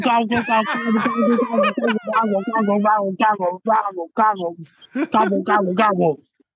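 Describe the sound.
A person imitates a turkey gobbling, a rapid warbling run of throaty, bubbling calls repeated in bursts for several seconds, loud, with a short pause before a final gobbling stretch.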